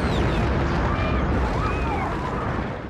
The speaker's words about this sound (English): Day, Paris. People look up as two fiery objects cross the sky. One hits a building.